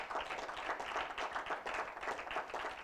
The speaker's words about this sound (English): Somebody give the Lord a clap offering for that.